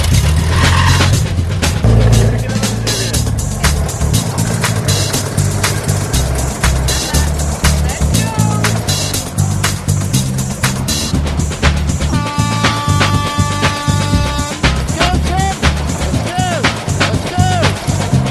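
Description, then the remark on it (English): Small lawnmower engines sputter and rumble loudly and continuously as a team struggles to start them at the beginning of a timed crop-cutting contest, their pitch wavering as they rev, with a brief high whining tone partway through and voices faintly mixed in. “Well, the techno teachers are off, but the brothers are having trouble starting their pesky lawnmower engines.”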